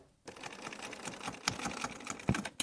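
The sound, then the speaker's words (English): A sewing machine runs in a steady, rapid mechanical chatter of stitching as clothes are hemmed, moderately loud, with a few sharper clicks and thumps near the end and no voices. “That's Carrie Grace, busy on the sewing machine hemming clothes.”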